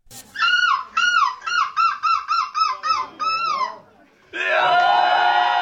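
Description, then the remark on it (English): A man from Eindhoven imitates a seagull in a championship contest performance, letting out a quick run of about nine loud, nasal squawking calls, pausing briefly, then launching into a long, sustained screeching cry. “Hij kan de lokroep van een meeuw perfect nadoen.”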